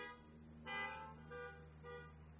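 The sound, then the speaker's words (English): Several car horns honk in quick succession, three overlapping blasts of moderate loudness, over a steady low rumble of idling engines, with no one speaking. “If your family has been touched by drug addiction, beep your horn.”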